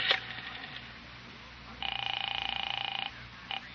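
A telephone being dialed: a brief electronic tone at the start, then a longer, rapidly warbling ring-like tone and a short final burst, fairly clear with no voices.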